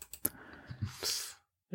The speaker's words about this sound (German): Sie hören die Tastatur vom Herrn Hoffmann.